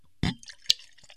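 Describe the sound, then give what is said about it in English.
Wheat beer from a foil-topped bottle pours briefly into a Pilsner glass: a short splashy gush, then a few scattered drips and a sharp clink, fairly quiet, with no voices. “It's pouring real nice.”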